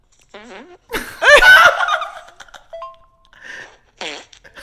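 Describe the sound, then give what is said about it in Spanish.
A loud, sputtering fart blasts out, followed by a couple of shorter squeaky toots, with bursts of giggly laughter before and after. “O sea, estos son pedos reales.”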